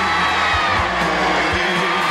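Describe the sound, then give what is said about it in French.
An audience in a hall shouts and cheers loudly and continuously when asked to shout, a dense roar of many voices with scattered whoops rising above it. “Je voudrais vous entendre crier.”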